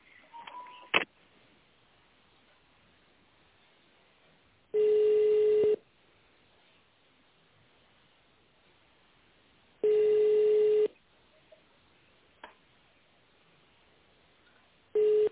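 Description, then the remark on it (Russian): A quick burst of telephone touch-tone dialing beeps as an extension number is dialed in tone mode on a Russian-language phone line, then a line-ringing tone: steady, mid-pitched tones about a second long, repeating every five seconds over faint line hiss, with no voices. “Пожалуйста, наберите внутренний номер абонента в тональном режиме или дождитесь ответа оператора.”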